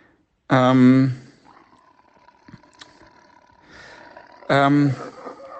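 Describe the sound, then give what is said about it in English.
A white tiger cub roars twice, loud, with short throaty bursts near the start and again near the end, separated by a quiet stretch of faint background noise, in a kitchen. “Look, I've won a white tiger cub in a game of poker. And I'm sitting in my kitchen with it now.”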